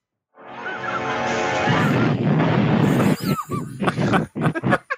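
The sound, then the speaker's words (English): A loud, roaring explosion swells in and rumbles steadily for about three seconds as a figure thrown off a roof explodes on hitting the ground, then breaks into scattered crackling bursts and debris-like chirps as it fades unevenly. “he chucks the Grim Reaper off the roof, and he explodes when he hits the ground. The explosion was beautiful.”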